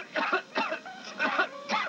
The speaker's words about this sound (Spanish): Toma Seneguina y déjate de toser.